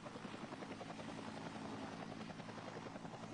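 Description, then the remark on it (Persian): A Bell 214 helicopter passes overhead, entering the area at Tang-e 4 during Operation Forough-e Javidan and carrying operation commander Lt. Gen. Sayad Shirazi. Its rotor produces a steady, rapid thudding chop with a broad mechanical roar, loud and constant throughout with no voices. “یک بالگرد 214 وارد فضای منطقه شد تا عملیات فروغ جاویدان را بی فروغ نماید.”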